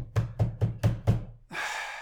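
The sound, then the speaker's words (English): Five firm, evenly spaced knocks on a door, fairly loud, as a landlady knocks to deliver mail in an apartment building in 1920s Berlin, followed by a burst of broad noise like a rustle or door movement. “It's delivered to the building I live in, and my landlady always knocks and wakes me up.”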